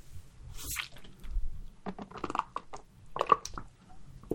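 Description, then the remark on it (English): A quiet sip of water: a few small wet slurping and swallowing noises with soft clicks of the mouth, spread over a few seconds with no one talking. “Brief sip of water there.”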